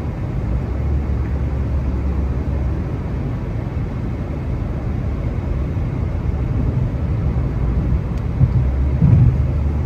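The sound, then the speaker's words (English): A steady, deep roar of jet engine noise from planes at the end of the runway at Andrews rumbles throughout, fairly loud and continuous, with a slight swell near the end and no voices. “A bunch of other planes are going to go off though.”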